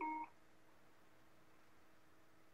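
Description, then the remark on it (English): A single short, fairly clear electronic beep sounds at the very start from a cell phone as a call is answered, then gives way to faint background hiss with no talking. “I'm gonna answer it on my cell phone.”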